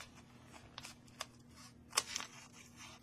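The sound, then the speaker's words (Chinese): Scissors cut through folded paper along a crease, cutting it into three equal parts, in a few short, crisp snips, spaced irregularly, quiet, with the sharpest cut near the end and no voices. “老爸现在拿剪刀啊， 拿剪刀啊，你帮我说明啊， 把 这个、 其中的一端一边剪下来，沿着刚才的折痕， 对折 一 样的房子，剪成三个等份啊。”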